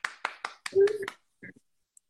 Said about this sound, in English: We got to, okay, Facebook, if you're listening, we need to get some sound effects. Sound effects. Because we got to give her a whole clap.